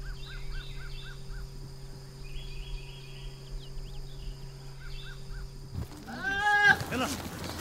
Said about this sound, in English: Ahead, yes, those are goats in those trees. There are some animals you expect to see up in a tree. Birds, squirrels, cats, perhaps. But goats? … has sent us this postcard from Morocco.